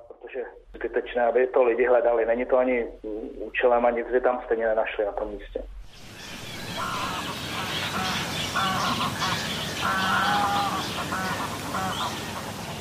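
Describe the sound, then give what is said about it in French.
A thin, radio-like voice speaks briefly, then a busy outdoor chorus of several bird species calling at once near a pond in a protected forest area where birds nest, with honking and quacking waterfowl, continuous over steady background noise. “les chants de plusieurs espèces d'oiseaux donnent lieu à un véritable concert”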